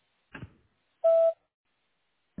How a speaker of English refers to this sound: Please leave a message at the beep and I'll call you back.